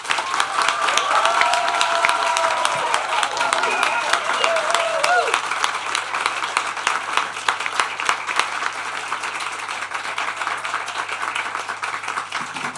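A crowd applauds steadily for several seconds, dense clapping with some cheering mixed in at first, then gradually thinning toward the end.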